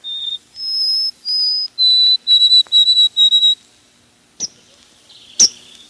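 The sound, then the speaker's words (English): A white-throated sparrow sings its clear, pure whistled song: a few long held notes followed by a rapid series of repeated triplet phrases, loud, then two sharp clicks afterward. “Of course, north of the border, white-throats change their tune. Up there, they sing, "Oh, sweet Canada, Canada, Canada."”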